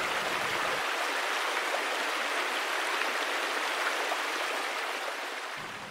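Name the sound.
flowing river water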